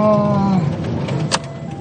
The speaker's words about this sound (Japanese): 車での収録です。